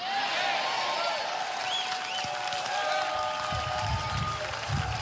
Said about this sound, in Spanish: Dame un aplauso más grande, por favor.